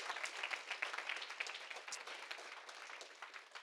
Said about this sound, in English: Give him praise. Go ahead. Clap your hands for him. He's worthy. He's so worthy.